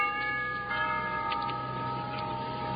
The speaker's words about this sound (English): Here, I'll ring the doorbell.